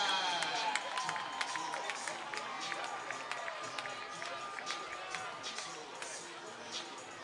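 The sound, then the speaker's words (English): A large ballpark crowd at a Double A baseball game cheers and applauds steadily for batter Eston Kerstad, scattered claps and shouts rising out of a dense roar of voices that carries on without a break. “Well, if our crowd might picked it up, you did hear some cheers and some ovations there for Eston Kerstad, who has just taken Double A by storm.”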